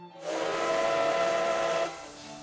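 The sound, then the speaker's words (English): A 20th-century steam locomotive pulling wooden wagons, on a heritage train recreating the 19th-century Madrid–Aranjuez trip in Spain, blows one long, loud, steady whistle blast lasting over a second, wrapped in a broad rush of hissing steam that lingers softly after the tone cuts off. “Today, the Strawberry Train recreates the 19th century trip by means of a steam locomotive from the 20th century with wooden wagons”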